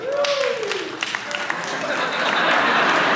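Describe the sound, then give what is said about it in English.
A live audience breaks into steady applause in answer to how many of them are deer hunters, swelling louder over a few seconds, with a short whoop or cheer near the start and a dense wash of many hands clapping. “So just real quick, how many deer hunters are here by applause?”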